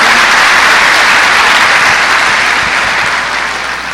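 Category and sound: crowd, applause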